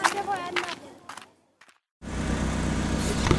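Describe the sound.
A voice fades out, a brief silence follows, then the steady, fairly loud rumble of a car engine rises as a company driver's car pulls in and idles at a house in Daraja.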